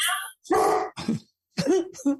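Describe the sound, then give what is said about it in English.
Dogs trade a handful of short, rough barks back and forth, four quick bursts with brief pauses between them, moderately loud. “Now the dogs are going to have a conversation back and forth.”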